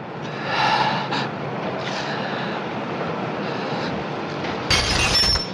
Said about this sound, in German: Ich hörte, wie ein Glas runterfiel und bums, fiel er hinterher.